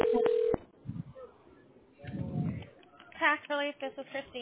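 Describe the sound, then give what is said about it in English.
Telephone tones as a call is dialed: a short burst of electronic tones opens, followed by muffled thumps and low rumbling, then a faint voice talking toward the end. “Bear with me a moment. Thank you for your patience. We're dialing.”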